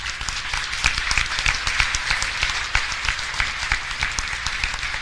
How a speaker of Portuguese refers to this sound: com o legado dos nossos fundadores, na pessoa do nosso sempre professor e presidente Darley da Silva Noronha, que nos deixou, que eu peço uma salva de palmas.